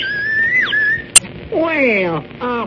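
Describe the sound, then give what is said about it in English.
A bird-call whistle that imitates birds (one end a meadowlark, the other a whippoorwill) is blown: a steady shrill note that bends downward, a sharp click, then loud warbling, sliding chirps imitating a bird's song. “Yes, but it's a special kind of whistle. Imitates birds.”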